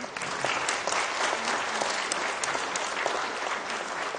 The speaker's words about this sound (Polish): Wielkie brawa dla Małgorzaty Szejnert.